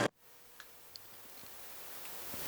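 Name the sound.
clock ticking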